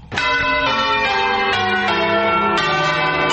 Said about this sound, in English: Church bells tolled Saturday in the U.S. city of New Orleans, Louisiana, and across large swaths of the Gulf Coast as residents mark the 10th anniversary of the deadly Hurricane Katrina.